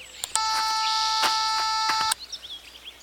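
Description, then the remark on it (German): An electronic doorbell gives one long, steady buzzing tone lasting nearly two seconds, loud and unwavering in pitch, then cuts off abruptly, leaving faint bird chirps behind. “Diesmal klingel ich.”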